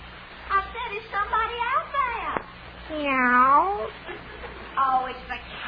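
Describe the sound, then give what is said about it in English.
A human voice imitates a cat, giving a series of meowing calls: a few short ones, then a long, drawn-out meow in the middle, and a final shorter meow, fairly loud. “Hey, I make a pretty good cat. Meow. Meow.”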